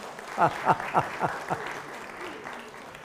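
A crowd applauds, opening with about five loud, evenly spaced bursts in the first second and a half, then settling into a softer, steady wash of clapping.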